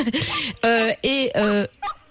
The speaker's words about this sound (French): je croyais que c'était votre petit Corinne, chien. Vous entendez un chien, c'est pas le vôtre, c'est le nôtre